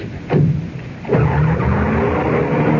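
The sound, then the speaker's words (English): A car engine revs hard and pulls away in a cloud of dust, with rising whooshes and a gritty tire skid at the start, loud, no voices present. “That was her pulling away in a cloud of dust.”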